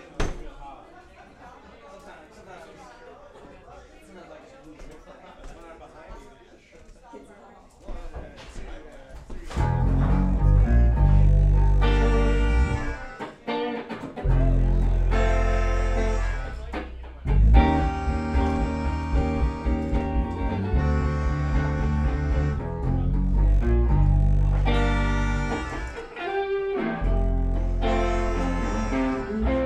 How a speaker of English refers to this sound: So we'll play a blues song for him. It's called a blues song.